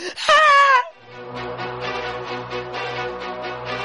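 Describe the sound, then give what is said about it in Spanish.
A woman lets out a loud, high-pitched, wavering scream from the living room, lasting under a second, then it cuts off and a steady, softer droning tone with a faint pulsing rhythm carries on. “Desde el salón se escucha otro grito que se funde con el de las dos mujeres.”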